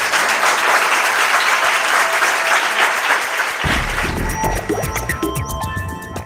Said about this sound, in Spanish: Un aplauso para que se nos escuche.